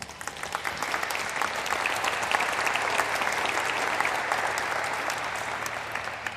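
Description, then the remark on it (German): An audience in Zedernick applauds to welcome a speaker, a nuclear physicist, before a talk on the future energy mix, a dense, steady wash of many hands clapping at even loudness, with no voices standing out above it. “Tut mir einen Gefallen und begrüßt sie mit einem guten Applaus.”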